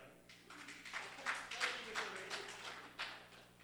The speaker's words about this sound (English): Excited clap.